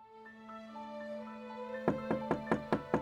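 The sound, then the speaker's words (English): A sustained musical drone plays, then six loud knocks on the front door of a New York City brothel, in the early morning hours of April 10th, 1836, land in a quick, steady rhythm over the lingering tones. “In the early morning hours of April 10th, 1836, Rosina Townsend woke up to a knock at the front door of her New York City brothel.”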